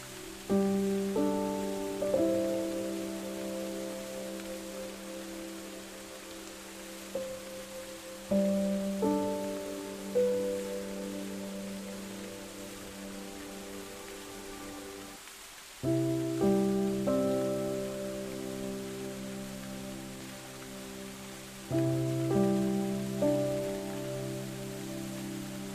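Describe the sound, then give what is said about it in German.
Steady, soft rainfall hisses throughout a rainforest-like ambience, layered beneath slow, sustained musical tones that swell in gentle chords every few seconds, with a brief drop near the middle. “Vielleicht kannst du auch die Geräusche wahrnehmen, wie im Regenwald.”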